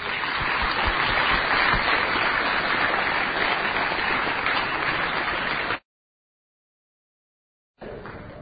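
A crowd applauds in a steady, dense wash of clapping for several seconds, then it cuts to silence before the clapping briefly resumes.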